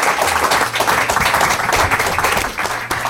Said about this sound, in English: First time Martin's ever had that kind of applause. Yeah. They were clapping us, Martin.